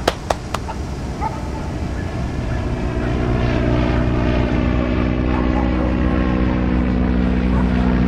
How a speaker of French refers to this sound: Les passagers s'envolaient dans le pays sélectionné. Stop ! On imagine que cet avion va en Australie.